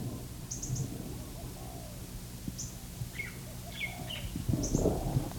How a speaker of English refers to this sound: This is a minor bird in about in a hedge of Norfolk pine on the edge of the orchard. There's also barred doves. And there's a lace-necked dove.